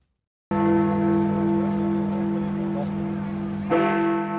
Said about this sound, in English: These are the chimes of the Big Ben clock in London. They rang out at 11 p.m. on the 31st of January 2020, signifying that the United Kingdom had ceased to be a part of the European Union